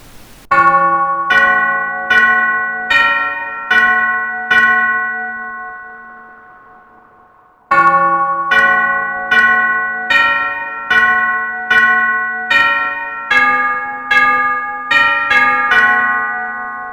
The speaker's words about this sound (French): Voici successivement le carillon du premier quart d'heure et celui de la demi-heure, qu'on augmentera du premier élément au troisième quart d'heure.